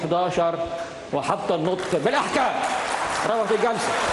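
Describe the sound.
A noisy crowd in a courtroom in Cairo, Egypt, claps and shouts during a trial as the judge orders cameras banned, with raised, overlapping voices jeering loudly over a steady wash of applause.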